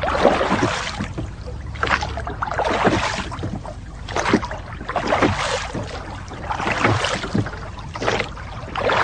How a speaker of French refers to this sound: Tu peux aussi, pourquoi pas, aller faire du bateau sur un lac.